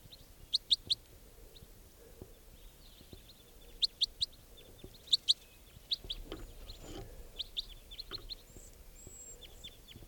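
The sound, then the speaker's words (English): A juvenile bird calls in short, high-pitched bursts, clusters of sharp chirps repeating every second or so over faint background rustle, with no voices. “There's one of the birds captured that sounds just like it.”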